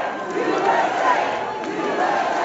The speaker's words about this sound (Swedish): Flera i publiken visslade och gjorde tummen ner mot presidentparet, men buropen överröstades sen av jubel när Trump höjde en knuten näve i luften.